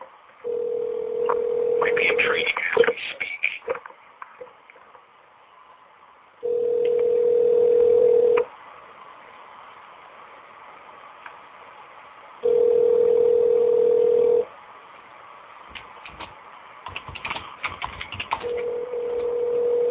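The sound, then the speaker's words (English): Telephone dialing tones as a phone call is placed: a steady mid-pitched electronic tone sounds in bursts of about two seconds, separated by longer silent gaps. Brief muffled voices and clatter appear near the start and end. “We're going to get … on the phone again, see if he remembers us.”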